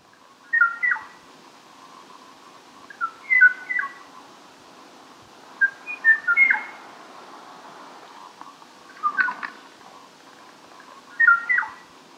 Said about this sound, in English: That's the song. It's supposed to be a duet. You can hear the silences where the o'o still waits for a reply. We cannot save this bird, gone now for more than three decades.